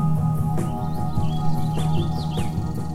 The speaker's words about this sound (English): The house finches in the morning having returned.